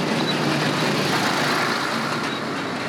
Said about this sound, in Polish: Widzimy, jaki wzmożony ruch mamy na tej ulicy. Są to przeważnie samochody ciężarowe i dostawcze, które blokują ruch.